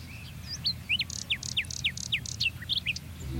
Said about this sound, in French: Déjà 4, 5, 6 oiseaux différents.